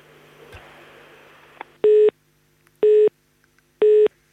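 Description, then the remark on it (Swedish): A telephone ringing tone on a call sounds in three short, evenly spaced electronic beeps about a second apart, loud, following a brief stretch of faint background noise. “Det ringer igen här.”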